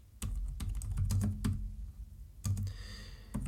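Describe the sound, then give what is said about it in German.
Irregular bursts of keyboard typing, a quick run of sharp clicks followed by a pause and another short flurry of keystrokes. No one speaks. “Während du tippst, kann ich ja über eine Inkonsequenz reden.”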